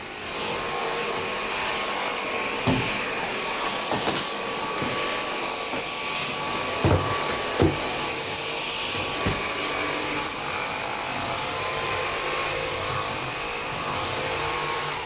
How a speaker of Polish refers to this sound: Dobrze, resztę odkurzę za chwilkę. Jeszcze kilka słów powiem o tym odkurzaczu. Ta rura od odkurzacza też ma taki przegub na środku. Jest przycisk, który można nacisnąć i tę rurę zgiąć maksymalnie pod kątem prostym.